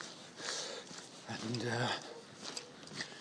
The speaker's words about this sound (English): And there's a sound of a dog barking in the distance. I nearly said a wolfhound. Sound of a wolfhound barking in the distance. It's not a wolfhound, of course.